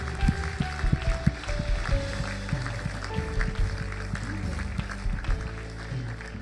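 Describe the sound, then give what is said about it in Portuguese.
A church audience claps steadily and densely for several seconds for the people joining the church family that day, a continuous wash of hand claps over sustained keyboard chords and a low bass pulse. “Igreja, podemos dar uma salva de palmas a todas estas pessoas que hoje se juntam à nossa família.”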